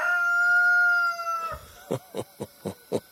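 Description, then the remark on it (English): A large rooster just outside a room lets out a long, sustained crow, then breaks into five short, evenly spaced clucking calls, with no voices present. “There's one great big cock of a rooster, and listen to that sucker.”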